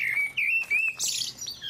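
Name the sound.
common blackbird singing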